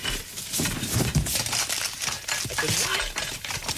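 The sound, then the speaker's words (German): Continuous rummaging and rustling through belongings by Frau Elster in the Sandmännchen story "Herr Fuchs und Frau Elster", with crinkly, crumpling noises and small knocks shuffling along unevenly for a few seconds, fairly loud and without clear speech. “Och, nun hören Sie doch endlich auf, überall herum zu kramen, Frau Elster.”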